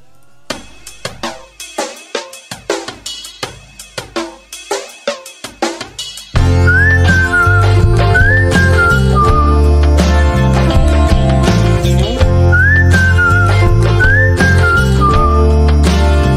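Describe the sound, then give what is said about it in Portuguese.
After a short plucked, rhythmic intro, a full band kicks in and a human whistle carries the melody in short, gliding phrases that recur, sitting clearly on top of the music. “a música começa com assobio e termina com assobio.”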